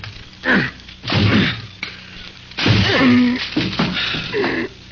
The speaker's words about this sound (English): Okay, give me a chair. I'll break this door down for you.